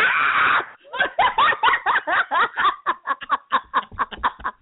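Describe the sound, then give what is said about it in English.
An excited, fan-like scream from someone in the back bursts out loudly, then breaks into a quick, rhythmic run of shrieking, giggly pulses that keeps going for several seconds. “I love you, too, in the back screaming like you …”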